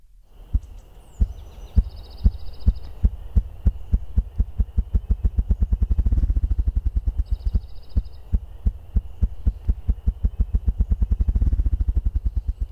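Upland game bird drumming: deep, muffled thumps that begin slowly and speed up into a rapid rolling flutter, heard twice, with faint birdsong and a thin steady high tone behind.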